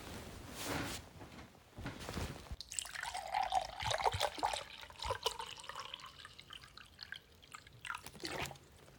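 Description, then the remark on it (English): Water pours into a glass, a steady gurgling trickle whose pitch shifts as the glass fills, preceded by a few brief clinks and rustles. “Would you like a glass of water?”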